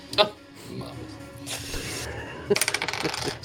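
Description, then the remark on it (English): A sharp click, then after a pause a burst of quick rattling clatters as dice are rolled for damage in a tabletop game, tumbling across a tabletop, fairly loud. Faint background voices murmur underneath. “Roll for damage for me.”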